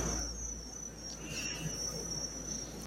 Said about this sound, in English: And then the crickets chirping in the background, real crickets.